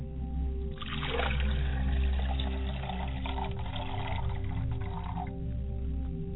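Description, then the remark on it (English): Water is poured in a steady splashing stream for several seconds to wash the face and hands before pouring a libation, then stops, over a low constant hum, with no one speaking. “As I get ready for libation, I like to cleanse myself by pouring water and cleansing myself.”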